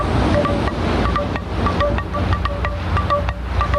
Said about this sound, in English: Because the ocean have a sound, and the ocean has a beat.